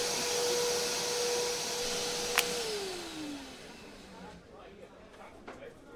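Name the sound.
vacuum cleaner running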